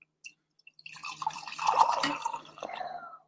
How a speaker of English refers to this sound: But let's first off, I'm going to pour me some coffee from my pour over maker.